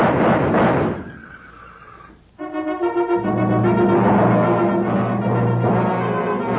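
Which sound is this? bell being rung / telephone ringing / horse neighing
horse neighing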